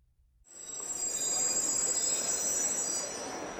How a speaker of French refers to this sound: Je prends la ligne 5. Je prends le métro.